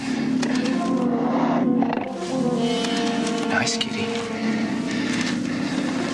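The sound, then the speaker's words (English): A big cat roars with a deep, rumbling growl that holds steady and loud for about six seconds, rising in intensity briefly around the middle before settling back into a sustained snarl. “Nice kitty. Nice kitty. Careful, sir. That's no house pet.”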